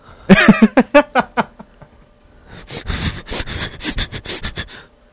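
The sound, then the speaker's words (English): Loud sniffling from a man: a quick run of sharp sniffs that fades out, then after a short pause a longer stretch of rougher, noisier sniffs and snuffles. “His sniffling just cut out the headphones.”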